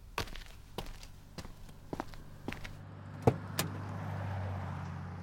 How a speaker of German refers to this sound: Achtung, ich stelle jetzt den Kanister wieder zu der Reihen. Bist du bescheuert? Der stinkt doch. Na ja, klar, stinkt mir sonst das Auto voll.